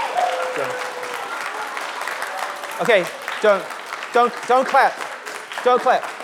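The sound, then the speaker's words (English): An audience breaks into steady, dense applause that fills the whole clip at an even level, with a man's voice speaking over the clapping in short bursts during the second half. “Don't clap. When you do that, you'll distract, you'll lose the spirit.”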